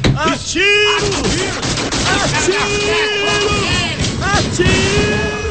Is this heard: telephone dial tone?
no